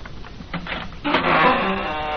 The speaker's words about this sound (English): Now they hear a signal being tapped on the outer door. They move through the dark hall, open the door.